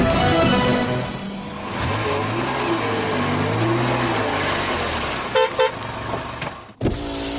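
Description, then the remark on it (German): A car rumbles past with steady road noise while driving by a car dealership in Fernwald, Germany, then sounds two short horn toots in quick succession before the engine noise trails off. “Wenn ihr euch fragt, warum ich gerade hier vorbeifahre”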